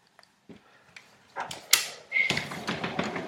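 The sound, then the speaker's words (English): A sliding glass door between a lounge room and a back outdoor entertainment area is shut while it rains: a few soft clicks and handling taps, then a rattling rumble along its track ending in a brief clunk. “Okay, so I'm just going to shut the glass door. And the sliding door.”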